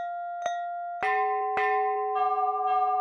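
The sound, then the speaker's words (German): A bell rings out with about five strikes, each clang blending into the sustained, humming tones of the previous one. It is steady, with no voices. “Es ist die Glocke.”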